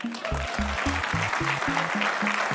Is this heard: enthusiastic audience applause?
yes